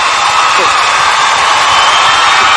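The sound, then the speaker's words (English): A loud, steady applause-and-cheering sound effect, a wash of dense clapping with scattered whoops running evenly from start to finish, with no talking over it. “Yes, that's the applause good.”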